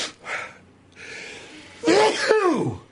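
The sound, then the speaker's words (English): A person sneezes loudly: a couple of breathy, rasping inhales build up, then a sharp, voiced burst trails off with a falling tone. “Where'd you hit the sneeze button?”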